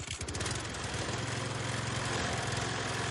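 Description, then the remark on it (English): The engine of a shiny top-of-the-line riding lawnmower, used to care for a very green lawn, runs steadily: a continuous droning hum with a low throbbing pulse and no pauses. No one speaks. “a house all paid off, whose only ostentatious mannerism was a very green lawn cared for on a shiny top-of-the-line riding lawnmower.”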